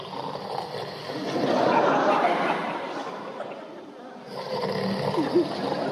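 Lions snoring in deep, rumbling breaths, two long swells with a quieter pause between, steady with no talking.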